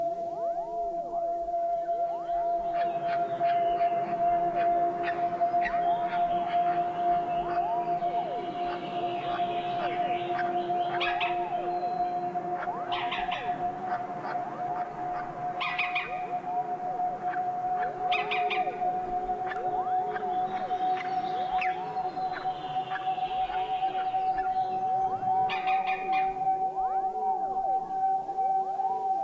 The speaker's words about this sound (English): Picus viridis at the nest.